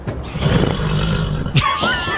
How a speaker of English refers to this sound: I just sat down. I heard it. Yeah. The creak of the chair.